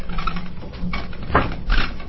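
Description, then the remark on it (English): A pigeon or dove coos in a few soft, muffled bursts over a dull, band-limited background hum, with no one speaking. “Sounds like we have a bird in the system.”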